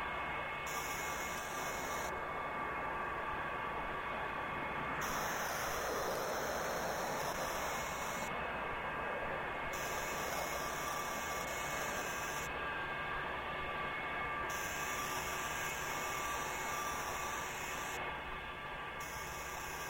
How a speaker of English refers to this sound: F-100 is an airplane built for speed and short distances. It was the first Air Force airplane to break the sonic barrier back in 1954.